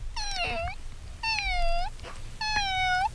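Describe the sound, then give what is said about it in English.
A voice imitates a cat with three drawn-out, wavering meows in a steady row, each clear with a slight downward slide at the end. “Kitty cat.”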